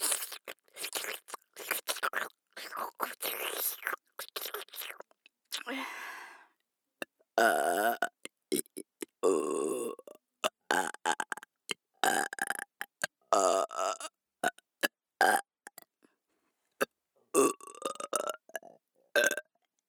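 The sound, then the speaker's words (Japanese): A long run of loud, close-up burps right at the microphone, one after another with short gaps, some drawn out and croaky, others short and wet, with no talking. “もういいよ、ゲップで果てろ。ゼロ距離ゲップで。”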